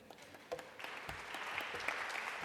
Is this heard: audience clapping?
yes